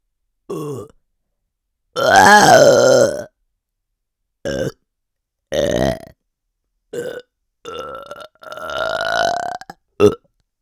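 A string of about eight loud burps right at the listener's ear, some short and clipped, others long and drawn out, separated by brief silences.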